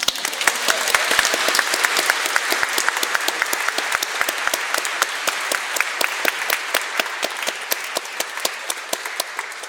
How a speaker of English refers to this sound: Now we can clap.